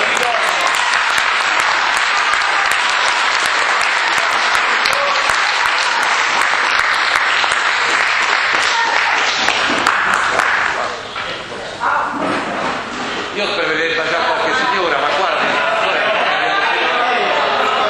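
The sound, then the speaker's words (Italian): Sustained, loud audience applause fills the whole stretch, a dense wash of many hands clapping, easing briefly near the end before picking up again. “Facciamo un applauso.”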